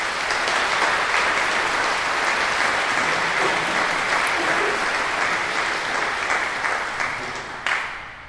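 An audience breaks into sustained applause for a visiting priest celebrating his 49th year of ordination, a dense, steady wash of many hands clapping at once that holds loud for several seconds before tapering off at the end.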